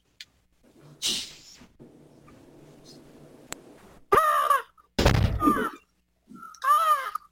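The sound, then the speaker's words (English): A person imitates a crow, letting out three loud, harsh, nasal caws in quick succession after a few seconds of quiet background rustle. “I always think of myself as a crow.”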